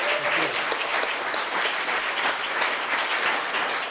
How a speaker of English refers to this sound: Okay, can we give Keith Terry a round of applause? Thank you very much.